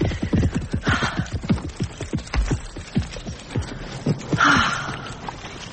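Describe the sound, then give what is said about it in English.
The hooves of a bulky, black horse with massive hooves clip-clop in a steady, slightly uneven rhythm, with a couple of breathy snorts rising over the footfalls. “And his hooves are massive, verging on the cart horse scale. Yeah, and his canter is off, true.”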